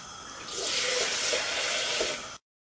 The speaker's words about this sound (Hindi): और बीच में 3 से 4 जो हैं मग्स, बड़े वाले मग आप पानी के डाल लें और इसको एक बॉयल आने दें और देख लें आपने कितनी ग्रेवी रखनी है. तो let's just wait for the boil और पानी में भी ऐड कर रही हूँ आपके सामने.